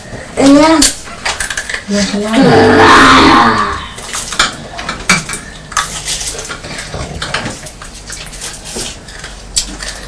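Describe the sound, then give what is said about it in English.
A child lets out a loud, raspy roar, a voice imitating a wild animal, lasting a second or two, followed by the light clatter of dishes and cutlery. “Why are you roaring?”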